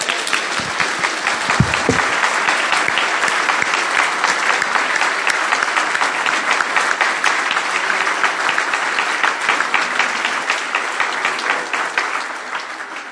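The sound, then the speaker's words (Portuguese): An audience applauds the Lord steadily for about thirteen seconds, a dense, continuous patter of many hands clapping at an even loudness, with no voices rising above it. “Aplaudimos o Senhor de novo.”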